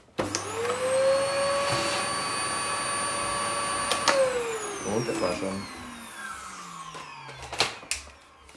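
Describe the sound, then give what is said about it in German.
A vacuum cleaner, used to suck up a spider, whirs up to a loud, steady whine for about four seconds, then winds down with a falling pitch as it shuts off, followed by a few clicks and a brief spoken remark. “Den Staubsauger ausfahren. Bitte nicht erschrecken, es wird laut.”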